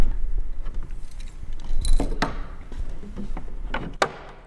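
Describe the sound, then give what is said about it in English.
A small key clicks and rattles in the lock of the cover over the keys of a black grand piano on a stage in MSU's Reynolds Recital Hall, then the wooden cover is pushed back with a few sharp knocks and a final clunk, over a low hum. “She unlocks the cover over the keys and pushes it back.”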